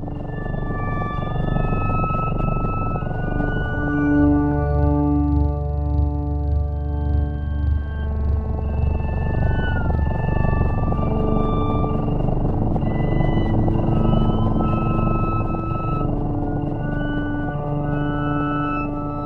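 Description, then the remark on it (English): Music composed for cats plays through a speaker on its own: sustained, layered tones with gliding, slurring high notes over a warm, steady low drone, evenly loud throughout with no talking. “So I'm going to play some of that right now. If you're out there listening, grab your cat, put him or her right by the speaker, and have a listen to this.”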